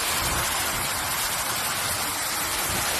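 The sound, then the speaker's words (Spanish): A steady, dense hiss of water hoses spraying onto a fire at a food company's warehouse in Burguillos, Seville, heard nearly all night, a continuous rushing noise with no pauses or changes for the full three seconds. No voices are heard. “Es el sonido de las mangueras de agua apagando el impresionante incendio que ha afectado a una nave de una empresa de alimentación de esta localidad sevillana.”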